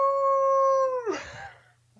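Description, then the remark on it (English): A person imitates a hound dog howl: one loud, steady held note lasting about a second, then breaking into a rough, wavering fall that fades away. “If you're ready, why don't you go ahead and just close us out with your best old hound dog howl.”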